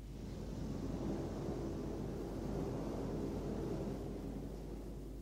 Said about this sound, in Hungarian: Elkezd fújni a szél.